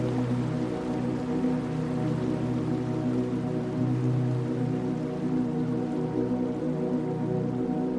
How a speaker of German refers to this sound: In der Ferne durchbricht ein leises Rauschen die Ruhe des frühen Morgens. Einer der unzähligen Wasserfälle der Insel lädt uns ein, unseren Weg zu Fuß fortzuführen.